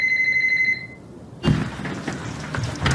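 A telephone rings with a shrill, rapidly trilling electronic tone that cuts off within a second, followed by a sudden thump and a stretch of loud rustling, clattering noise.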